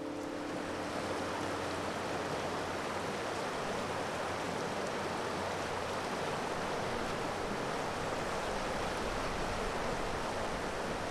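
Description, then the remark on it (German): The Zürsbach, a rushing mountain brook, roars steadily, a dense, unbroken wash of water noise with no voices or other sounds throughout. “Das war für uns ganz normal, dass wir das Rauschen vom Bach gehört haben, jede Nacht vor allem.”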